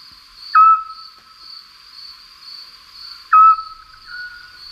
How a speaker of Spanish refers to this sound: Los autillos, que son un búho chiquitín, dicen ut, autillo.